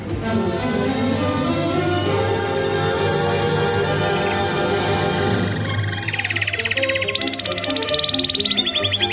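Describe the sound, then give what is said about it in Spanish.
A radio segment jingle for "Trino del Conciso" with a sustained tonal bed, then a bright, rapid trilling bird call repeating in fast pulses near the end, loud and upfront without any speech. “Trino del Conciso, información confidencial todas las mañanas.”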